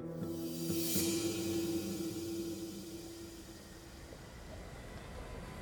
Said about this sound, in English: With every mile they travel and every chuff of the steam engine, Pinkerton's anxiety reduces.